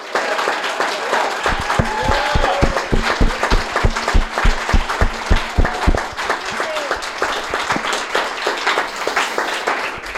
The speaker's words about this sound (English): And just a round of applause for that, because none of us, almost none of us would be here if not for that.